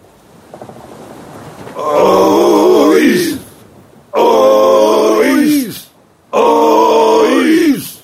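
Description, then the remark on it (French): Fishermen in Badalona grunt with effort as they haul their boats on ropes out of the water, away from the shore: three long, loud, strained group heaves, each about a second and a half, evenly spaced over a steady rushing background. “Les marins ont attaché des cordes à leur barque et les tirent loin du rivage.”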